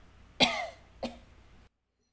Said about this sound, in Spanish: Salí y mis pulmones liberaron la tos furiosa que tenía dentro.